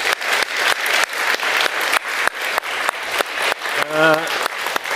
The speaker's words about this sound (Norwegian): Applaus til deg.